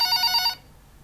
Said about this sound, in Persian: زنگ زدم گوشیش، گوشیرم جواب نداد.